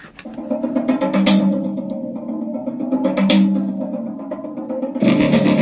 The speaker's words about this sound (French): Donc le contrebasson, et on le mélange avec un son de gong.